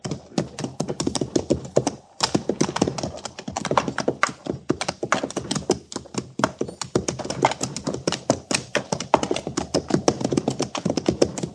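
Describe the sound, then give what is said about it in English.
A steady run of quick, hard hoof clops fills the whole stretch, fairly loud, like several horses trotting together at an even pace with no voices. “There's a horse yonder, Captain, over by the stream.”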